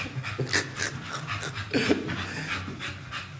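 A dog pants heavily and rapidly, a steady rhythm of quick breathy huffs, continuing throughout with no one speaking.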